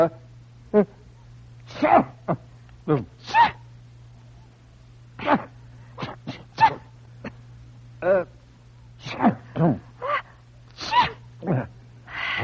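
A rapid series of short, sharp sneezes from two people trading off back and forth after each takes a pinch of snuff, fairly loud, with a steady low hum running underneath.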